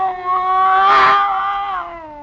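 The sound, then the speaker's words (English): A scrawny cat named Clara, back arched and every hair on end as it faces a bushmaster snake, lets out a long, strained yowl, rising and wavering with a harsh, breathy hiss in the middle, loud with no other sounds around it. “It was a cat, that scrawny cat, Clara, that Mother Willis had sneaked aboard in La Guayra.”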